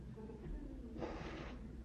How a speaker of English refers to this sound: Remember I told you I'm not crying, I'm blowing my nose.